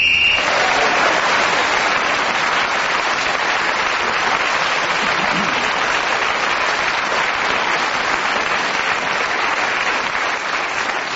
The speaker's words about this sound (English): the round of applause you received at the end for keeping going, not only for a whole minute, but shows that they appreciate your erudition and the way you handle the English language in just a minute.